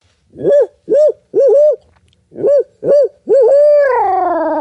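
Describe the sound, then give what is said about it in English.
A man's voice imitates an owl, giving a series of short rising hoots in two groups, then a long sliding hoot that trails off, loud with no other sounds. “Yep, rip out an owl hoot.”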